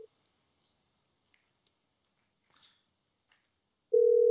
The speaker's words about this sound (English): So we're going to call one caller back right now since nobody's calling in. We'll just dial him up right here on the phone.